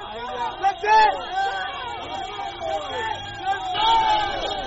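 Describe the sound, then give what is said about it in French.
Hundreds of Bangui residents at the roadside cheer a passing convoy of trucks from Cameroon, escorted by Central African and Russian soldiers. Many voices shout and call over one another in a steady jubilant clamor, with louder swells of cries near the start and again toward the end. “Des centaines de Bangissois sont sortis au bord de la route pour saluer avec des cris de joie le passage de ces camions escortés par des soldats centrafricains et russes.”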